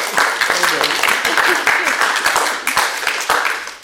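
An audience applauds steadily, dense overlapping claps forming a loud, sustained crackling wash with individual sharp hand claps standing out, holding at full strength throughout.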